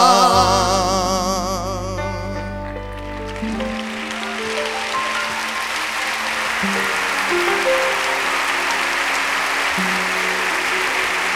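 A song's closing notes ring out, then a large audience breaks into steady, dense applause that carries on loudly to the end, with faint musical tones lingering beneath.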